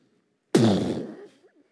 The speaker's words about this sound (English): You think of a fuse lit and a huge explosion that lasts a second but has devastating effect.